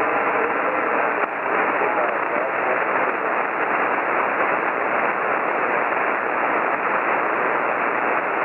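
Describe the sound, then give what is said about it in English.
A steady wash of radio static fills the whole stretch, with a faint, garbled voice buried beneath it that never becomes intelligible: a weak amateur radio transmission from a station in Idaho Falls, Idaho, checking into a net, too broken to read. “He's not coming back, but I can't understand him.”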